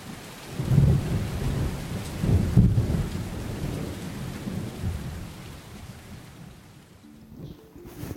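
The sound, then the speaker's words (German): Heavy rain pours down steadily in a dense, continuous hiss, with deep rumbles of thunder rolling underneath, swelling early on and easing slightly toward the end. No voices. “man kleine, feine Tropfen und nach einer Weile prasseln die Tropfen nur so auf einen hinunter.”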